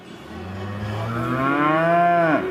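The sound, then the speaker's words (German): A single long, loud cow moo, its pitch slowly rising and swelling before breaking off abruptly, with no talking; bulls and cattle on display in cages at the Agra agricultural fair on the Leipzig exhibition grounds in mid-April. “Mächtige Bullen und Rinder stehen zur Schau in Käfigen.”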